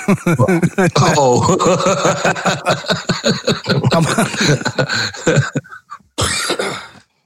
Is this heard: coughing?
yes